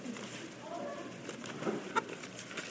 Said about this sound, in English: And so now you must turn and think for just a few moments about Matthew 2. So turn there. Let me hear that pleasant sound of pages turning.